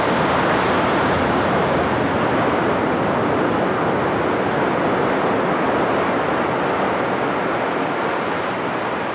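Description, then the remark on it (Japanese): Ocean waves breaking on the shore at Nakahama in Yamamoto Town, an earthquake-disaster area, heard as a steady, dense roar of surf that fills the whole recording without clear pauses between waves. No voices are present. “震災以降と同様に、この波の音もまた次の世代に聞いてもらい、何かを感じ取ってもらえたらと思います。”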